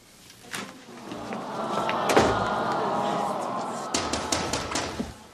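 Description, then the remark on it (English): Several sharp knocks rap on a wooden back door, coming in uneven bursts with a quick cluster near the end over a steady background hum. “Oh, wow, somebody's at the back door.”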